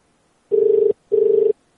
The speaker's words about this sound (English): Already keeps calling my cell phone.